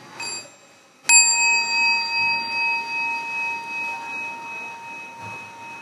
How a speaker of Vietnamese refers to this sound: Mình lắng nghe tiếng chuông và mình chắp tay thờ hướng.